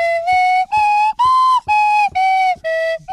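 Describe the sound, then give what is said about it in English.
A swanny whistle, played down a phone line to wake someone up, sounds six short, bright, reedy notes in a steady rhythm, each holding a similar pitch with slight bends, loud with brief gaps between blasts. “That's what happens, he just plays a swanny whistle to me down the phone.”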